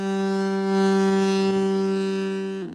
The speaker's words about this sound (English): When they install it in their car, they think it sounds like people are waving and just trying to. But in actuality, it sounds like you're laying on a horn.